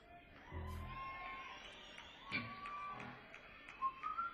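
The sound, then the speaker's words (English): A person whistles a few thin, wavering notes over a steady murmur of crowd noise, with the brightest, sharpest whistled tones coming near the end amid scattered background voices. “I'm going to try to whistle.”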